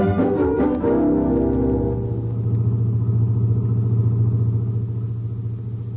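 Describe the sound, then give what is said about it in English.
A car engine starts up with a burst of revving, then settles into a steady low rumble as the vehicle drives along at night, loud, with no voices. “Nice night to drive.”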